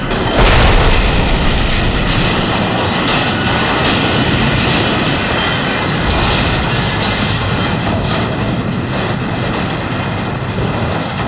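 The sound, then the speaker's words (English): A careening subway train full of police slams into an end-of-line barricade with a heavy boom, followed by a loud, sustained roar of rumbling and grinding metal that fills the whole stretch with no voices. “The careening subway train full of clown police did not.”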